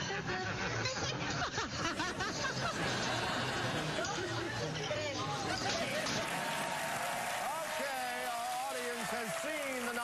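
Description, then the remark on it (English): A studio audience of a home-video show claps steadily and loudly for several seconds before voting, the dense applause mixed with crowd chatter, laughter and scattered voices. “Time to stop clapping and start voting now.”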